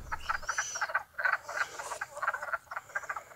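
A dense chorus of frogs croaking in quick, pulsing bursts in two ponds in spring, on their first day awake, many calls overlapping in a steady rhythm, moderately loud, with no one speaking.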